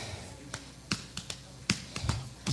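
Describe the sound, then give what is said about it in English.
Scattered finger snaps from an audience snapping along with a song crackle out loosely, about eight sharp, bright clicks in uneven rhythm, with a faint low musical hum underneath. “But it only plays in the lower registers, so if any of you feel up to it, could you snap or clap or anything like that along with this song to get the higher registers?”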